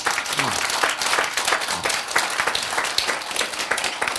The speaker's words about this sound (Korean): 박수.